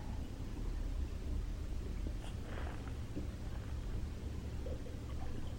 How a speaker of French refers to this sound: Vous entendez les clapotis de l'eau, de la cascade. Qui viennent nettoyer tout ça.